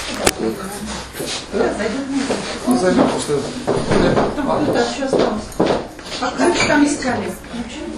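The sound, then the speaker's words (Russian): A door is pushed shut with a sharp clunk near the start, followed by shuffling and handling noises while people talk in the background. “Да и прикройте на всякий случай.”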